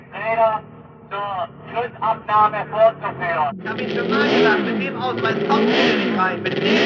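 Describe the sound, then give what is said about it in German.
A man speaks briefly, then loud racing motorcycle engines roar past on the Solitude racetrack near Stuttgart on the last training day of a motorcycle Grand Prix, their pitch rising and falling as several bikes sweep by together. “Und schon an der ganzen Atmosphäre merken wir, dass dieses große Sportereignis für die Motorradfreunde auf der schönen Solitude-Rennstrecke bei Stuttgart stattfindet.”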